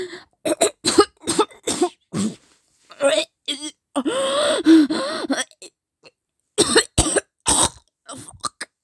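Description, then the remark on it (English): Bursts of harsh, close coughing come in rapid clusters, broken by a strained, gasping vocal stretch in the middle before another short round of coughs. “Of course I'm going to cough when you face fuck like that.”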